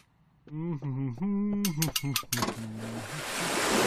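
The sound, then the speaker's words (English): A voice calls out in drawn-out tones, then a loud burst of water splashing at an entryway washes in and keeps building, a broad hissing spray that overtakes the voice. “Insurance doesn't cover entryway splashes.”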